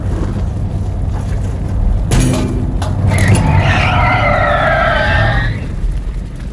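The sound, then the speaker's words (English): A car rumbles along, then its tires let out a loud, wavering screech for a couple of seconds as it skids to a halt, leaving only low road noise. “I'm gonna stop the car.”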